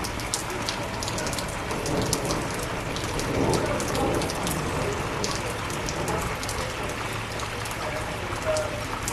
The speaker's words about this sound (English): Little spurts of thunder here and there.